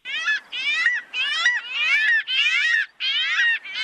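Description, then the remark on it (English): A chocolate-coloured, fish-stealing gull gives a rapid series of about seven harsh, nasal wailing calls, each rising and falling in pitch, loud and rhythmic with short gaps and no voices. “So this is the chocolate-coloured gull that steals other gulls' fish.”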